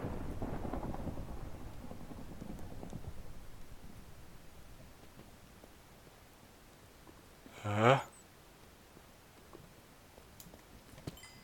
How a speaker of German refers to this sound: Es hat gedonnert und man hört was laufen.